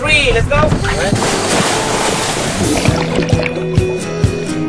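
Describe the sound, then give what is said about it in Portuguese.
A boat pushes across open sea on a 15-minute ride taking a class out to dive. Water rushes and splashes steadily around the hull, with people's voices and chatter mixed in over the continuous wash. “Caminhada, água, barco, 15 minutos e lá vamos nós.”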